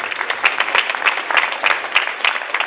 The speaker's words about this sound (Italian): e per questo meriti già un altro applauso.